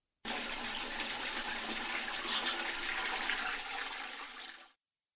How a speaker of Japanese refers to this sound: 彼女が携帯タイプの乙姫を鳴らしたのだ。